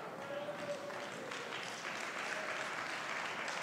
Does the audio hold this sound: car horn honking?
no